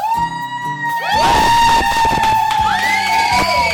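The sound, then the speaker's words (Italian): A crowd of fans outside the studios screams and cheers loudly in overlapping rising and falling high-pitched shrieks, continuing for several seconds over a steady low background tone. “Abbiamo fuori dagli studi le fan che gridano.”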